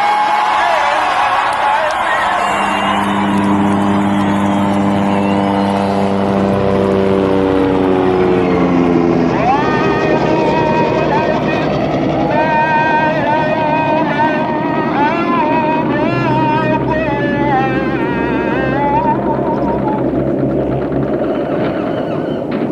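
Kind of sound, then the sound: vehicle, motorboat engine idling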